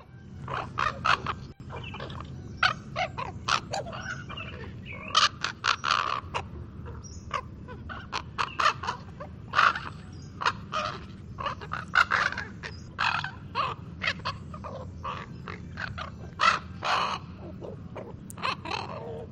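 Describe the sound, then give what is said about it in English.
A steady stream of harsh, chattering calls of young ravens, many overlapping short croaks and squawks in a busy, irregular rhythm, with a low rumbling background throughout and no talking. “And then there's a raven young gabbling.”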